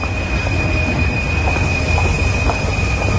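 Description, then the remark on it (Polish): A London Underground Central line train arrives at a station in west London in bitter cold, rumbling steadily along the rails with a loud, sustained low roar, a thin high-pitched wheel squeal ringing continuously above it, and no voices. “Nieliczni pasażerowie, którzy przyjechali tu ze śródmieścia Londynu czerwoną linią, zwaną Central, złorzecząc pod nosem na przenikliwe zimno, opuściło pustawę o tej porze peron.”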